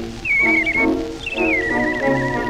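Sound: girl whistling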